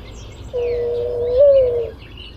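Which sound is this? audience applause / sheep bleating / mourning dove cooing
mourning dove cooing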